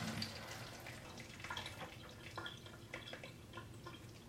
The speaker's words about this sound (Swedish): Då ska vi försöka hälla av lite vatten från quinoan. Då använder jag ju tesilen igen som vi hade förut. Känner vi den där och så häller vi lite försiktigt.